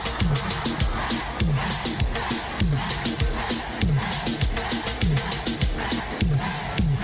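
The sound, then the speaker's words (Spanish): A loud crowd shouts and cheers continuously, the women shouting "huepa", over a pounding, steady dembow dance beat, the voices blending into a dense, energetic roar for the whole stretch. “Gritando huepa, y todas las mujeres gritando huepa.”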